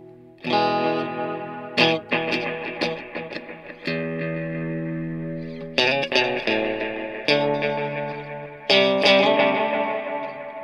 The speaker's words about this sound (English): I don't even know if I can play guitar.